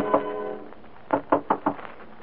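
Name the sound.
knocking on a door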